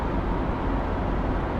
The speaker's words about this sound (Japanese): これは古くなったタイヤで走っている時の車内音。